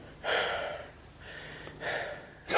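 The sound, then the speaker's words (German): A man breathes heavily and laboriously: a series of loud, airy inhales and exhales in an uneven rhythm, with no talking. “Dr. Strauß, er atmet schwer.”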